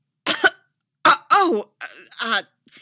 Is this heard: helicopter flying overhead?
no